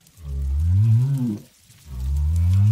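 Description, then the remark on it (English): Two long, low, moaning calls from southern right whales off Western Australia, where they breed, the first rising slightly before fading, followed after a short pause by a second deep, sustained groan, fairly loud. “The sound of southern right whales off Western Australia, where they go to breed.”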